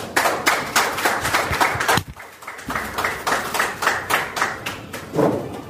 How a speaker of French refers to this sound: C'est donc sur ces applaudissements que nous allons vous dire au revoir, fidèles auditrices et fidèles auditeurs de Mon Droit au quotidien.